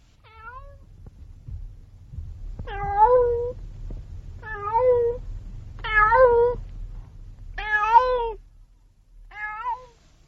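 Cats meow on a balcony, about six drawn-out, wavering calls spaced a second or two apart, clear over a low background rumble.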